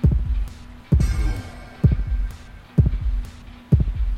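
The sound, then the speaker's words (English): A heartbeat sound effect in an audio game: a steady, heavy heartbeat thumps low and loud about once a second, each beat a deep double thud over a faint background hum, with a brief rising whoosh after the second beat. “Now, if your heart rate increases, you'll hear a chime and a kind of a gasp that will tell you that your heart rate is decreasing back to normal, and all you have to do is stand still and do nothing, and that will happen.”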